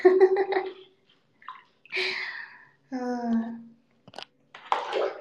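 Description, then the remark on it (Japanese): Bathwater splashes and sloshes in a few short, moderately loud bursts as a LUSH bath bomb shaped like the One Piece straw hat is dropped into the bathtub, with brief voiced tones between them. “前にいただいたラッシュさんのなんかワンピースコラボみたいのをしてた時があってね、ワンピースのなんか麦わら帽子の形してるラッシュの入浴剤、バスボムを今、贅沢にドボンって入れて、めっちゃいい匂い。”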